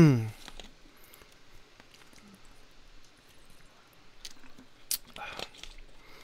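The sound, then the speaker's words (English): Someone drinking water: after a brief voiced sound at the start comes a quiet stretch, then a few soft wet gulps and swallowing clicks near the end. “Let me get some more water here.”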